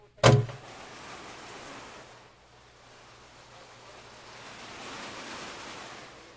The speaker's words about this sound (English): Doesn't that rain sound good? Amen. Hallelujah. Praise the Lord. Thank you for praying for rain, brother.